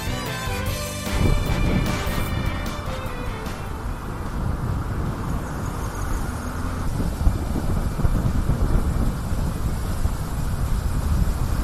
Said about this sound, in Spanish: Ese es el sonido que nos deja la tarde-noche de ayer y también las primeras horas de esta jornada. La borrasca Herminia, que deja picos de viento en Lorca de 78 kilómetros por hora.